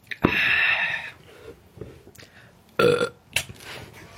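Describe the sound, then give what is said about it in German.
A person burps on command after taking a sip: a loud, drawn-out burp, followed after a short pause by a second shorter, rougher belch and a little breathy noise. “Ich kann auf Kommando rülpsen jetzt, aber ich nehme noch einen Schluck.”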